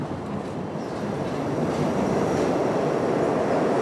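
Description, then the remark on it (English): A steady, loud rumble of an express subway train heading downtown, running slowly and oddly along the rails; dense low-frequency roar with faint clattering and a thin high whine, continuous throughout with no voices. “I noticed that the train was beginning to run oddly. It was running slowly.”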